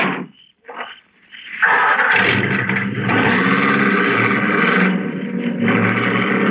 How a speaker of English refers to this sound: And then the car was stopping. I cracked the lid of the trunk again. It was a nice night. The convertible top was down, and I heard it all.